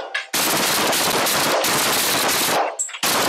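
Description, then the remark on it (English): Loud, rapid gunfire from police officers' firearms in long sustained volleys, with a brief pause between bursts and a sharp restart near the end; harsh, with no talking. Two officers fire at an actress who pulled out a gun, in Los Angeles. “As police scramble to safety, Come on, go. Gunfire erupts.”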